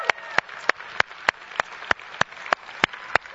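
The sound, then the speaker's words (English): A crowd claps together in a steady, even rhythm for standing people who have completed or are taking the Carpenter Series, about eleven sharp, loud claps over a soft murmur of background noise, with no one speaking. “Let's give them applause, right?”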